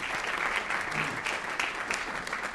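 An audience at a debate claps steadily for the speakers for a few seconds, a dense, even wash of many hands with no voices over it and no pause in the clapping.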